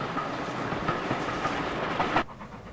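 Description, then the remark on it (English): A train winds along railway tracks through a moorland valley in bright sunshine, with a dense, steady rumble and faint rhythmic clacking, loud, before the noise drops away abruptly near the end. “The train continues to wind its way along a moorland valley in the bright sunshine.”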